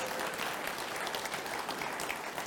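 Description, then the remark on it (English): Steady applause from a church audience fills the space, a dense, sustained patter of many hands clapping at an even level throughout, with no voices standing out. “Come on, I know you guys want to clap for that.”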